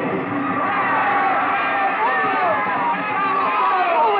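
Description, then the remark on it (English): A large crowd at a fiesta in a plaza in Mexico on a spring night, with fireworks and a papier-mâché bull, cheers and yells continuously, a dense roar of many overlapping voices with excited shouts rising out of it, loud, with no pause. “William Travis stood on the edge of the yelling crowd, smiling.”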